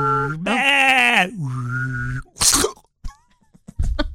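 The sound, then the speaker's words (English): A person imitates a sheep, giving two strained, wavering bleats up close, followed by a harsh sneeze-like burst and a few scattered clicks and snorts. “Like you're driving down the road and there's basically an imploded sheep. I like, that sound.”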